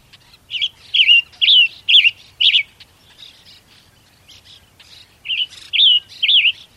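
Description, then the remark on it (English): A bird sings a bright, liquid song of quick warbling phrases, loud, in two bursts separated by a short quieter pause with faint chirps. “And now, as the beautiful giver of gifts begins to pour forth his vibrant and liquid song”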